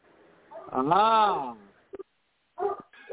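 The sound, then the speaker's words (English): A hound dog bays in one long, loud, drawn-out howl that rises and then falls in pitch, followed by a couple of short, sharp yips. “Yes, my hound dogs are baying.”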